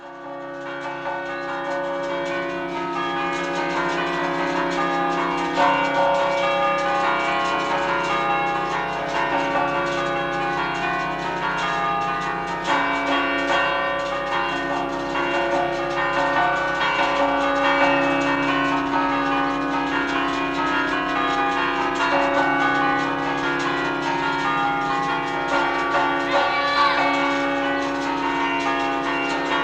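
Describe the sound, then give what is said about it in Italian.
Stationary church bells in a bell tower are struck without being moved, ringing out in a quick, festive rhythm, their overlapping tones sustained and fairly loud throughout with no voices. “fare delle suonate senza muovere le campane, ma suonandole con dei ritmi veloci, con dei ritmi festivi o anche delle melodie, a seconda del numero di campane a disposizione.”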